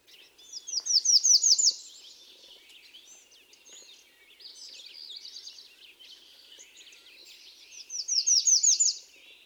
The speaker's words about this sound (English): The Redstart also has a two-noted song which is similar to the black and white warbler.